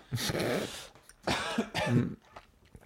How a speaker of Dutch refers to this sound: Nou ja, zo'n droog kuchje. Een droge kuch? Een droge kuch.